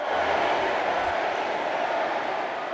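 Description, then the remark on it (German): A large indoor crowd on the first day of the Democratic convention in Philadelphia chants and boos, supporters of Bernie Sanders and the Clinton camp vying to be heard and Hillary Clinton being booed; a dense, steady roar of many voices that stays loud and unbroken throughout, with no single speaker standing out. “Reden wurden unterbrochen, Hillary Clinton wurde ausgebuht, Anhänger von Bernie Sanders und das Clinton-Lager versuchten immer wieder die akustische Oberhand zu gewinnen”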